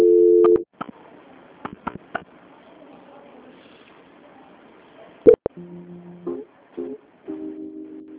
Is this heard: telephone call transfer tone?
yes